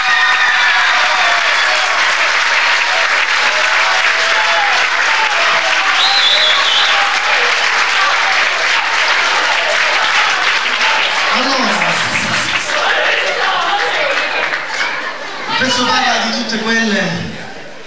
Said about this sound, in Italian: Anzi, ve lo presento subito. Mi raccomando, accogliamo un bellissimo applauso, perché è la prima volta che si esibisce sopra un palco.